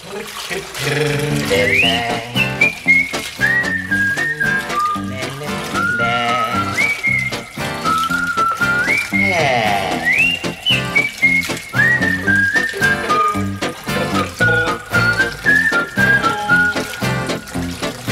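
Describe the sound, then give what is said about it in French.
A bouncy French children's song about bath time plays loudly and continuously, a high whistle-like melody riding over a steady rhythmic accompaniment, with splashy, watery touches woven into the arrangement. “Et on va commencer en écoutant la chanson”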